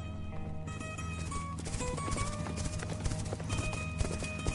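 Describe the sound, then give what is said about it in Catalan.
Horses galloping, their hooves clip-clopping in a rapid, steady rhythm of sharp percussive knocks over a low rumbling background, with a brief whinny-like tone and no voices. “Els sorolls dels galops augmentaven”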